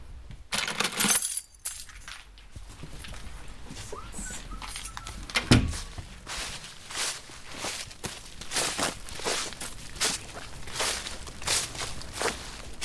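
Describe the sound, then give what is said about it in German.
A brief metallic jingle of keys near the start as someone fetches the key, followed by a steady series of footsteps and small knocks and clinks as someone moves about and puts on shoes, with no talking. “Sehr schön, ich komme, ich ziehe mir auch die Schuhe an, hole den Schlüssel.”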